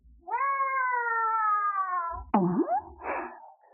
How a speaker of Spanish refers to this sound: Por ahí anda tu amiguito, el gato.